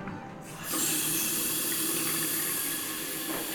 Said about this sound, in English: But what I'm really excited to see is my hotel bathroom. I'm about to turn on the faucet.